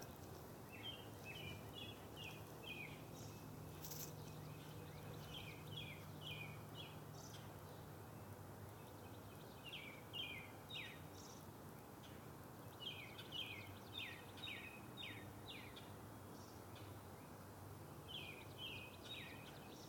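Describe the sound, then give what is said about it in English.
Birdsong on a Friday morning in Franklin, Massachusetts, in short bursts of quick, high chirps, repeating every few seconds over a steady background hiss. No one speaks. “May this moment of quiet and birdsong call you to a good Friday.”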